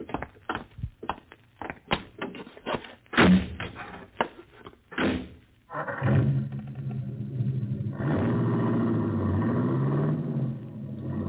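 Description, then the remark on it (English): A few sharp clunks and a car door shutting, then an engine turns over and settles into a steady, rumbling idle that continues to the end. “Buggy. Yeah. Always promised myself I'd have one of these someday.”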